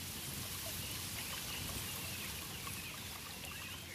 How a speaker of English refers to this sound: It is basically a room without a ceiling. Nothing distracts, and the water creates a unique echo, says Godefroy.